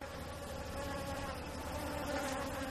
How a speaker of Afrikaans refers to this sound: Bo hulle in die lug vlieg daar 'n groepie kleiner bye op pad na 'n groot veld met blomme toe.